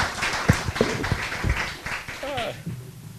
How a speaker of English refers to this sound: Thank you for joining us this morning. So let's give a big round of applause for our panel here today. Thank you all so much for joining us.